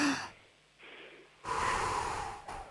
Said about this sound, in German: Wir atmen nochmal gemeinsam durch, einatmen und ausatmen.